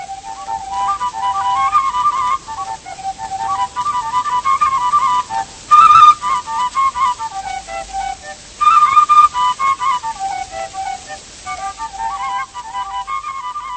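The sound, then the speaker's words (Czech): A shepherd from Velký Lom, Czech Republic, plays highland (vrchovské) folk songs solo on a double fipple flute, its breathy, whistle-like tone moving in stepped phrases with short pauses between them, fairly loud; an archival recording made about 70 years ago and since digitized. “pastýř z Velkého Lomu, hraje vrchovské písně na dvojce píšťale Dvojce.”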